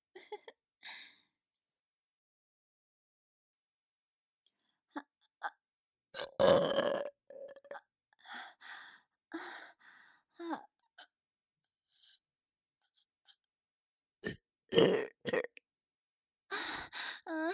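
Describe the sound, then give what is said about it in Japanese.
A series of loud burps erupts at irregular intervals, some short and abrupt, others drawn out and throaty, separated by brief quiet gaps. “ねえ、以前のあなたのおしっこゲップと比べていかが？どちらが臭いか教えてくださいな。”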